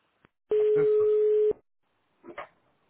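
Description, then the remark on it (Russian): A single steady electronic telephone ring tone for an incoming call sounds clearly for about a second, followed by silence and then a brief muffled voice-like burst. “кто-то звонит.”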